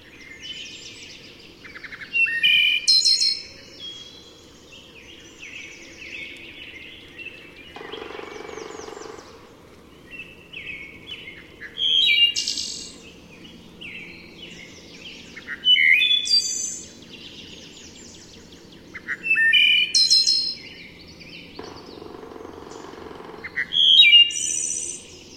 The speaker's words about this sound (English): I walk home through the woods, and whenever you hear it, it just sort of stops you. It's not like any of the other birds. It's like the whole woods is singing.